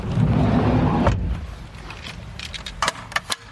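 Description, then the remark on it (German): A low vehicle rumble fades out, then at home a heavy stroller is hauled out of a car with a few sharp clunks and rattling knocks, with no one speaking. “den wuchtigen Buggy wieder aus dem Auto”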